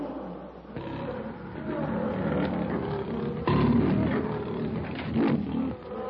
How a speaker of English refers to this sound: With a savage growl, the huge king of beasts gathers his great tawny body for the charge.